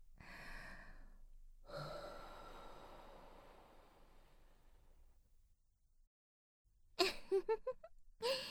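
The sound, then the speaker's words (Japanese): Two soft, warm breaths are exhaled with no talking, the second long and slowly trailing off, breathed onto the listener's nipples in an erotic roleplay. After a pause, a quick burst of sharp, wet clicking mouth sounds follows. “JK の温かい吐息で乳首蒸れるのたまんないでしょ。”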